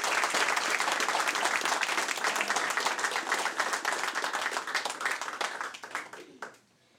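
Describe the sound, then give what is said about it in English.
An audience at a songwriting workshop applauds steadily for the songs just performed, a dense wash of many hands clapping at full volume that thins and fades out over the final second or so. “Just can we get another round of applause for this wonderful music?”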